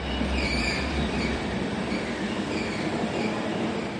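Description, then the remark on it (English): A train carriage carrying refugee brothers rolls steadily along the rails with a continuous rumble, faint high squeals from the wheels drifting above it, and no one speaking. “The brothers' future will be decided on this train.”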